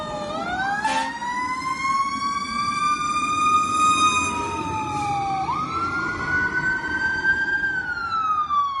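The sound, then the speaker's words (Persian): A fire engine's wailing siren rises and falls steadily over a low truck engine rumble, loud, continuing throughout with no voices; fire engines are heading to a fire at a carpentry and painting workshop. “قبل از اینکه خودروهای آتش نشانی به محل حادثه برسند، زبانه شعله ها از بدنه کارگاه زد بیرون و دود زیادی در حال گسترش بود.”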